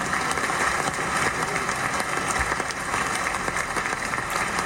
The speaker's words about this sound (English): So hand claps to you three.